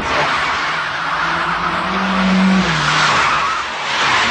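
Car tires screech loudly and continuously for several seconds as a vehicle pulls away, with a revving engine droning underneath; intense, no voices.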